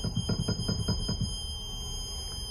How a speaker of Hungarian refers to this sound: Hát a legmagasabb sípok azok a kevert sorokban találhatóak. Tehát itt a mixtúránál, sárf mixtúrában például. Ezek a hangszíneket jelölik? Igen. Ez az egyik legmagasabb hangja az orgonának, az első manuál.